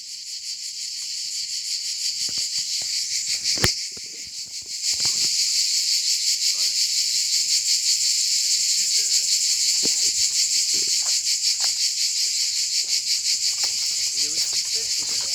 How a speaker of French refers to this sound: Donc, à l'ordre du jour, on entend les cigales